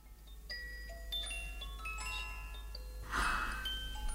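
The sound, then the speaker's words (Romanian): A music box clock plays a slow, delicate melody of bright plucked notes that ring and fade, fairly quiet, with a soft breathy sigh near the end. “Da, e un ceas boata misic.”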